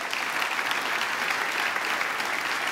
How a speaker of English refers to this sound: And why do we clap for that? Because everyone loves a great comeback story.